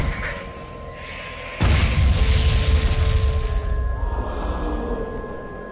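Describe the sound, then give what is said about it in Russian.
A military bomb explosion bursts in suddenly after a quieter stretch, then rolls on as a loud, deep rumbling roar, with steady sustained tones humming underneath throughout. “Взрыв, военный взрыв, взрыв бомбы, радостный крик толпы и аплодисменты.”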